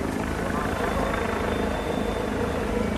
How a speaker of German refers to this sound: In der Luft kreisen Hubschrauber, die im Bedarfsfall weitere Polizisten zum Grenzübergang bringen können.